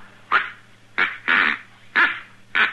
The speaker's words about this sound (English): What is that? This is a duck call. I ordered all the way from St. Louis. It just come in the mail. Doesn't sound like any duck I ever heard. Oh, it's guaranteed, Mr. Young.